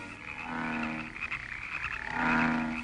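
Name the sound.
frogs croaking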